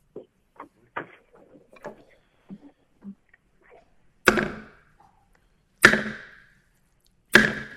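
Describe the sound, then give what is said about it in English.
Three loud, sharp gavel bangs on wood, evenly spaced about a second and a half apart, each ringing out briefly, after a few seconds of faint shuffling and soft rustles, opening a session of the United States Court of Appeals for the Seventh Judicial Circuit. “lawyers in and bang the gavel.”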